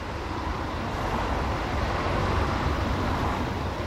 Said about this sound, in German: Die Pfotenhauer Straße in Dresden-Johannstadt. Der Verkehr der neuen Waldschlösschenbrücke stört die Krankenhausruhe.